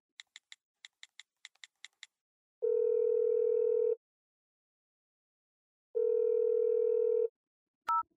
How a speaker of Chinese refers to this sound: 这就给他打电话。